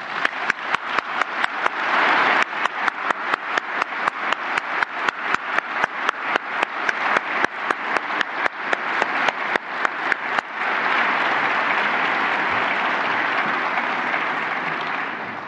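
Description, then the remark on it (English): An audience at an ICANN meeting breaks into sustained applause for the hosts, many hands clapping in dense, rhythmic bursts that swell into a steady wash of noise before gradually thinning out toward the end. “May I ask you to join me in a round of applause for our hosts.”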